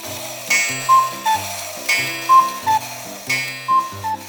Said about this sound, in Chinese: 这时，时间走到中午12点，布谷鸟从时钟头上冒出来，布谷布谷的叫个不停。